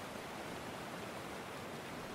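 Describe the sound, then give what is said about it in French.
A steady, even rush of the Durolle river flowing past a waterfall beside an abandoned factory, continuous and fairly soft, with no voices or other sounds over it. “La vallée des usines, avec ses vieux bâtiments impressionnants jalonnant la rivière, détenait un charme unique.”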